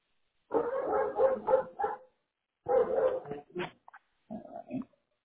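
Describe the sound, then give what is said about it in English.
Three Doberman dogs bark in several quick bursts of rapid, overlapping barks, with short pauses between volleys and a few higher yips near the end. “What type of dogs do you have? 3 Dobermans.”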